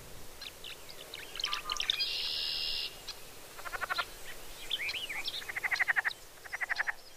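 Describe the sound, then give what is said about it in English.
Leopard frogs croak in the shallows of Beaver Nursery Pond in northwest Arkansas in repeated rattling, pulsed bursts, mixed with a steady buzzing trill and scattered chirpy bird calls over a quiet outdoor background. “There were leopard frogs in the shallows of the pond, plus lots of other birds nearby.”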